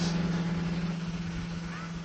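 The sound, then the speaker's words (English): A scooter engine drones past with a steady, low, buzzing hum, fairly loud throughout and easing off only slightly as it goes by, on a sunny winter afternoon in a mountain village below Sněžka in the Czech Republic. “And I'm just getting out of the way while a scooter comes by.”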